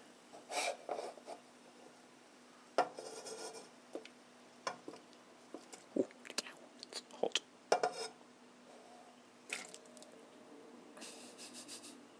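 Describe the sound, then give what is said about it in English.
Sliced potato is tipped into a pan of boiling water: intermittent scraping, soft knocks and rustling bursts over a low steady hum, with no voices. “So we shall stick that in the water.”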